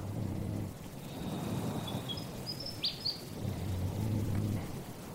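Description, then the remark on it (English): A willy wagtail sings a few thin, bright chirping phrases at night in the desert, rising briefly in the middle, over a steady low rumble of wind with no voices. “That's a willy wagtail, not a night parrot. They're not a nocturnal bird, but sometimes they just seem to sing to the moon, which is pretty cool.”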